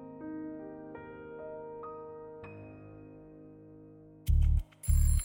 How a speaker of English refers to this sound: It's a week later, 7th of November 1974, Belgravia. John races to answer the ringing telephone.